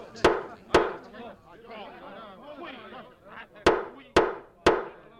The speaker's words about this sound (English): 7 men are around the table with the mayor at the head of it. They all look very concerned. They're all talking at once. The mayor bangs his gavel.